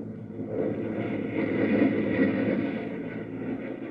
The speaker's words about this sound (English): Then Mark issues a command to his crew. Launch a pursuit rocket! The pursuit craft roars into the air.